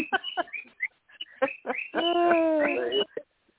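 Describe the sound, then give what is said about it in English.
A pet bird chirps: a quick run of short, sharp chirps, then a longer wavering whistled call lasting about a second, then one last brief chirp. “Is that your bird? Every time I start to feel the anointing, he starts chirping.”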